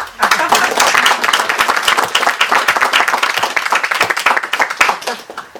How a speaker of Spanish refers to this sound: Aplausos.